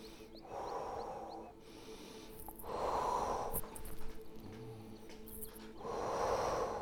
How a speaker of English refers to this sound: And we activate it by breathing, breathing, expanding, breathe out, condensing, and blowing on the heart chakra.